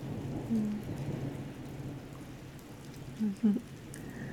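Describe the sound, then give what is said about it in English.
Steady rain drums on a tin roof in a dense, even patter, with a low rumble underneath and a couple of brief muffled tones breaking through near the end. “With the tin roof rain and the hum of the road.”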